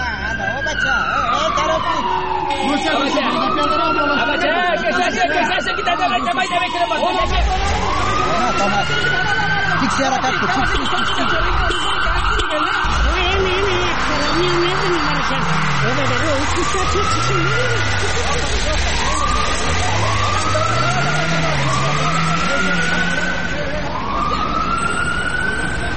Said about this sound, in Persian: بله بله، حتم درست بود. اونه چند تا موتر شیشه‌سی های بینم بر پلیت از جاده رفت طرف ما میان و میخواهند که طرف چارایی تیر شوند.